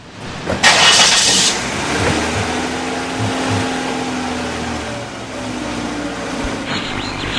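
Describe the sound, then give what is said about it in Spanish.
A car engine turns over with a loud burst, then settles into a steady, droning hum as an armored car drives along. Continuous, with no voices. “se movilizaba en su auto blindado cuando se encontró con su amigo Alejandro Pucho”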